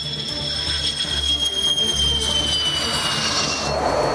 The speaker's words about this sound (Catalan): El que sentiu són avions de combat nord-americans F-16 de la Força Aèria Holandesa, els mateixos que rebrà Ucraïna els pròxims mesos